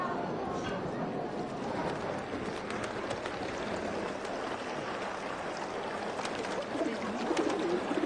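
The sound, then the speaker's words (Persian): Pigeons coo amid a busy open-air crowd of pilgrims in the courtyard of the Imam Reza shrine in Mashhad, Iran, their soft calls blending into a steady wash of murmuring voices and footsteps, moderately loud and continuous throughout. “چرا ببین کبوتره از آدم ها نمی ترسن؟”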